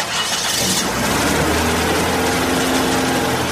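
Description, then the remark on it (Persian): A car engine turns over and settles into a steady running hum, with a burst of hiss at the start and rising tonal whine as the vehicle pulls away, no voices present. “برو بخیر خلیفه حرکت کو که دیگه ناوقت شده.”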